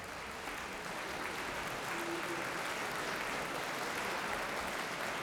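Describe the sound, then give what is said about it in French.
Steady, dense applause from a large festival audience at a concert in April 1977 fills the whole stretch, a constant crackling wash of clapping with a murmur of festival-goers' chatter underneath. “Essayons de nous projeter dans la salle en écoutant les applaudissements.”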